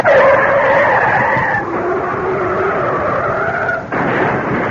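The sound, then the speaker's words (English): A car speeding on the wrong side of the road near a bridge skids into an oncoming car, with a loud, sustained tire screech that wavers in pitch for several seconds, breaks off briefly near the end, then resumes. No distinct crash impact stands out. “They hit.”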